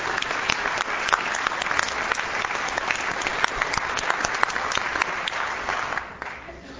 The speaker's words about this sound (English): So if he's in here today, if he'd stand and give him a round of applause. So Doc. Well, let's clap for him anyways.